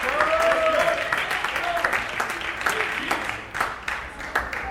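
A crowd at a poetry performance applauds steadily, dense clapping filling the whole stretch as the next poet comes to the stage, with cheers and whoops rising over it before the applause gradually thins toward the end.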